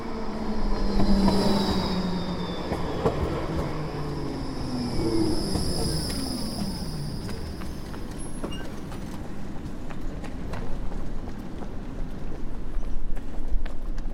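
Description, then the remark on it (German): A tram rolls steadily along its tracks through the city of Augsburg, Germany, with a continuous rumble, rattling clatter and occasional high-pitched wheel squeals, loud throughout, with no voices. “Wenn ihr auch auf dem Augsburger Christkindlesmarkt gehen wollt, dann fährt ihr am besten mit der Straßenbahn.”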